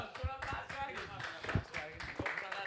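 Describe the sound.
A crowd applauds a person being introduced to teach them, with a steady patter of many hands clapping, loud and continuous, while voices cheer and call out over it.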